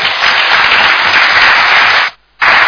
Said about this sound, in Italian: Saluto i relatori che vanno via, li ringrazio ancora e li saluto con un grande applauso.